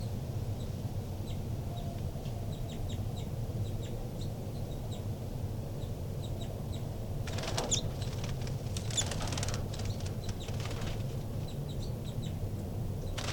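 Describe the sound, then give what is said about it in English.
Two new baby birds that popped out of the nest flutter their small wings in a few brief, papery bursts midway through while climbing a screen, over a steady low hum, with faint, tiny high ticks and chirps scattered throughout. “Babies are fluttering around.”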